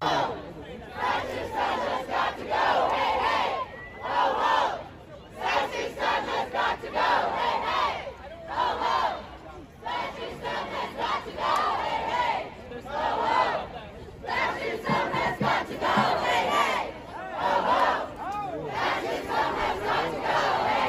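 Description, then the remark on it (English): A large crowd of protesters chants slogans in unison, such as "Hey, hey, ho, ho, that system has got to go" and "fascist scum has got to go", loud rhythmic phrases repeating every few seconds with brief gaps between them, many voices blending into a steady, forceful roar. “Hey, hey, ho, ho, that system has got to go.”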